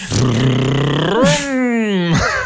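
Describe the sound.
A voice mimics a car engine revving, a buzzing vocal drone that rises and falls in pitch twice, like a child's vroom, loud.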